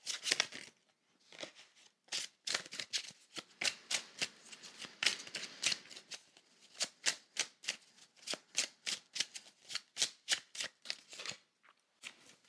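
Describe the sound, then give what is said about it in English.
Crisp riffling of a tarot card deck being shuffled, a rapid run of papery flicks and snaps that settles into a steadier rhythm of individual card slaps near the end; no voices. “So with that, let's pull some tarot for the week.”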